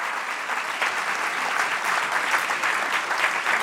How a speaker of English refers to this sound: How about giving her a warm round of applause for sharing her book with us?